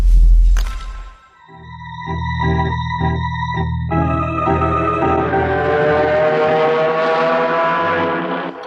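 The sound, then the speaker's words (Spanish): A sports car speeds along a road through mountains southeast of Tangier at sunset, its engine loud, revving through pulsing gear changes and then climbing steadily in pitch as it speeds up. No one speaks. “Esta misma tarde, al declinar el sol entre las montañas de Hasul Maikaf, al sureste de Tánger, un auto deportivo devora la carretera en vertiginosa carrera.”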